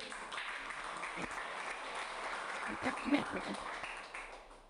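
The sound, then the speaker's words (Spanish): An audience applauds steadily for several seconds, a dense wash of many hands clapping at once that swells slightly near the end before starting to fade, with faint voices mixed underneath. “De su aplauso.”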